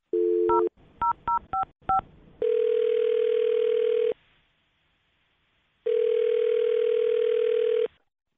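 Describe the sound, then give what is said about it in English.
A quick series of telephone keypad tones as a number is dialed, followed by two long, steady ringback tones separated by a silent pause, loud and clear with no voices. “I'm going to dial his phone number right now, and hopefully he answers, and you can make your Awkward Tuesday phone call.”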